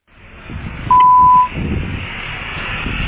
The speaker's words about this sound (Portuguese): Este interfone atende apenas entregas. Após o bip, diga o número do apartamento.